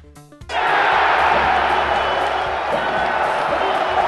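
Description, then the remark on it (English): Boston Celtics fans in a basketball arena erupt after a brief lead-in as Boston beats the LA Lakers 98-88 in Game 1 of the NBA Finals, then keep up a loud, steady roar of cheering that stays dense and unbroken for several seconds, with a low rumble underneath. “Celtics fans had plenty to cheer about last night.”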